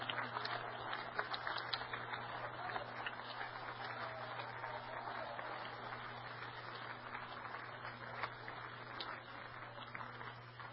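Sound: audience clapping hands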